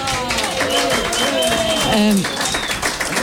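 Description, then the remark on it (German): An audience claps loudly and steadily for an encore, a dense patter of many hands, while voices call and shout over the applause. “zugabe, wenn ihr stark dazu klatscht.”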